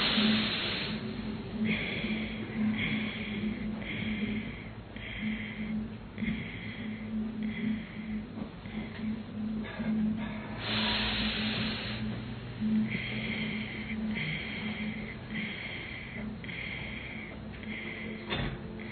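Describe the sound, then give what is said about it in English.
Breathing through the nose as a breathing exercise: a long hissing inhale followed by a series of short, rhythmic nasal puffs, repeated twice over a steady low humming drone. “Again, normal breathing, inhale, exhale through the nose.”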